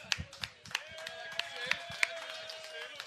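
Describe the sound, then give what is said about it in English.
A bar crowd claps in scattered, uneven bursts while voices cheer and hoot underneath, a lively, moderately loud burst of applause during the live a band's show on a Friday. “And let's get this crowd rocking and rolling over here.”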